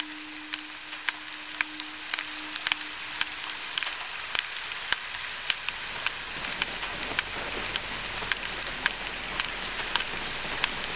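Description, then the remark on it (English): Steady rain patters across a surface, a dense crackling hiss broken by frequent sharp drops, with a faint low hum underneath early on and no voices. From a 2016 performance of Hildegard Westerkamp's soundscape work Talking Rain. “You can hear this exploration of space happening in Hildegard Westerkamp's Talking Rain, in this performance, which was recorded in 2016.”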